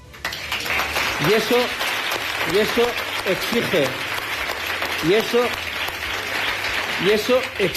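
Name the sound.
applause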